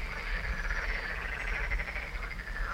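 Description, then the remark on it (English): A dense chorus of frogs croaking steadily together, a continuous overlapping rattle that fills the background at moderate volume with no pauses and no voices. “So the frog mill is a reminder of the old days when there were still many mills along the Flügelsbach, with clip-clap, clip-clap, and croak-croak, croak-croak.”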